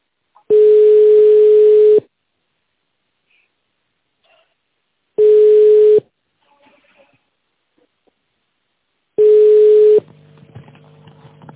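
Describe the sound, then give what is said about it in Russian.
A telephone ringback tone while on hold with the company Neftestroy: three long, steady, low-pitched beeps, each about a second and a half, separated by several seconds of silence, with faint line noise creeping in after the last one. “Ожидайте ответа или введите добавочный номер специалиста.”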